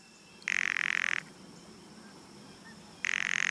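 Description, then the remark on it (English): A bird gives two loud, harsh rattle calls, each a dry buzzing burst under a second long, separated by a few seconds of quiet, with no talking. “Rattles.”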